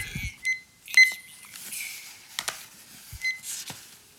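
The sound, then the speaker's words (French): A handful of short, high electronic beeps from a kitchen timer being set to 10 minutes, spaced irregularly among soft button clicks and handling noise, with no one speaking. “Voilà, on va s'enquiller une dizaine de minutes et je mets le minuteur à 10 minutes.”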